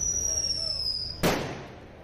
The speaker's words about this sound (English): People are firing fireworks.